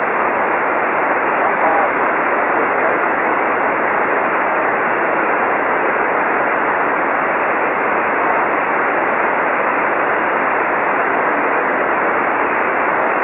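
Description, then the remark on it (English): Steady, loud static hisses without a break on an amateur radio signal received in Long Island, New York, at a weak 5x1 report, a dense band-limited rush of noise that seems to bury any faint signal underneath. “You're only 5x1, and a lot of noise on your signal.”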